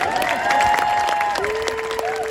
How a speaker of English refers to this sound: This is one of the most unique races in the world. Has been for 112 years, which is kind of wild just even saying that. And let's give a big cheer for the deep sea, the greatest race.